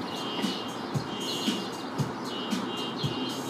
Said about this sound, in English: And I pulled up the first voice memo, and you can hear this random car horn.